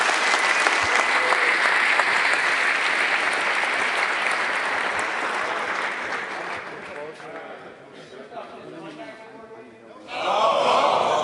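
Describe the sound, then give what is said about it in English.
Loud, dense applause from a large audience greeting speaker Dan Kaminsky, steady for several seconds before gradually thinning out, then a brief burst of renewed clapping and crowd noise near the end. “Give him a huge round of applause, the biggest one for any speaker, Dan Kaminsky.”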